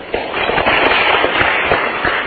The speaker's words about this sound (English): Thank you so much. Did you hear that applause? I did.